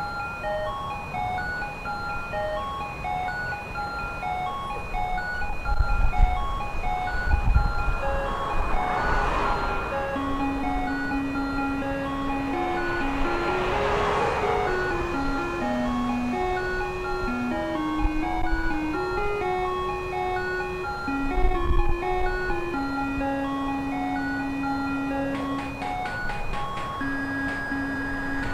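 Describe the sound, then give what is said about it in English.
An ice cream truck jingle plays steadily, a bright tinny melody repeating over a low vehicle rumble, with a few louder whooshes of passing noise; no one speaks. “I know this isn't the right one, but this could be the best ice cream song ever.”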